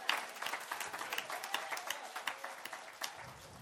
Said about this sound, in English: If you agree with Brother Paul, give God another hand clap of praise right there.